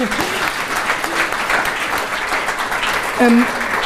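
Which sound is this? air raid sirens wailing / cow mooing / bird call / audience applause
audience applause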